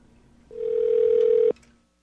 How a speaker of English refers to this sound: Okay, so I'm just going to dial 0 and see if we get a New York telephone operator.